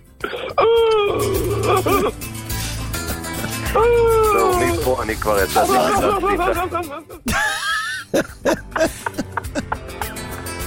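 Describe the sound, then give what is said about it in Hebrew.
A man wails and sobs loudly in long, wavering cries that rise and fall, coming in several drawn-out bursts with short broken sobs and a noisy background underneath. “תשמע אותו, תשמע איך הוא בוכה פה.”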